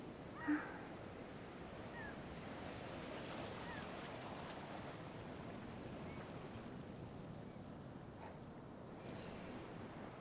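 Steady ocean surf rushes and washes continuously, a soft roar with no pauses, broken only by one short, sharp bird cry near the start.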